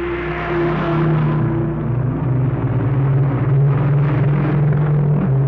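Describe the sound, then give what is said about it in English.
A convoy of heavy freight trucks, the first convoy to push through to Fairbanks, rolls down a steep incline past the boundary line in snow and roars past one after another in a sustained, loud low rumble. Deep engine drones shift in pitch as each vehicle goes by, with no voices. “Here they come now, and as they pass our truck here, I'll let you hear them.”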